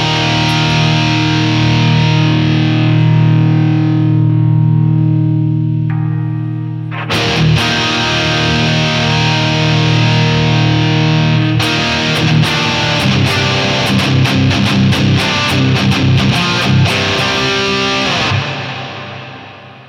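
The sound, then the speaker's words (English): Crunchy overdriven electric guitar played alone through an amplifier's crunch channel with the reverb turned down a little, opening with a sustained ringing chord, then moving into choppy, rhythmic strummed chords that stop abruptly near the end. “All I did was bring the reverb down a little bit on that one. Let's go ahead and save it before it gets destroyed. That's on the crunch channel.”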